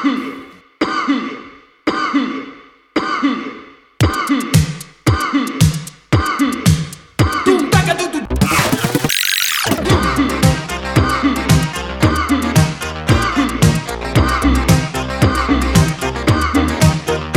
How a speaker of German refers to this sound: Entschuldigung, aber wenn ich schon beim Räuspern bin, was fällt euch als erstes ein, wenn ich nach Musik frage, in der ausgiebig gehustet wird? Mir ja diese hier.